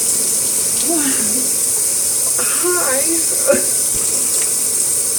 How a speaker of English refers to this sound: Oh, what are you doing? I'm taking a shower, babe.